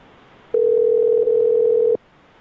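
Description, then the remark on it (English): A steady telephone dial tone hums for about a second and a half, loud, starting and stopping abruptly while a call is being placed, with no talking over it. “So we're going to call him back.”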